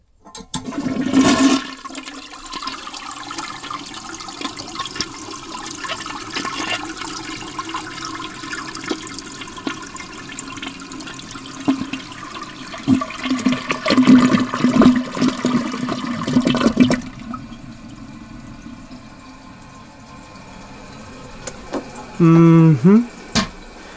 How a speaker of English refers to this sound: One thing you can do, though, is flush the toilet.